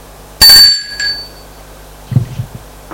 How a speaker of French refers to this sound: Il sonne à la porte.